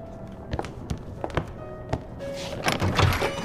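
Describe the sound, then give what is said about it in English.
A few hollow thunks and footsteps lead up to a front door being opened to let arriving guests in, with a rattling latch and a brief rush of noise as it swings. Moderately loud, no voices. “I'll go let them in.”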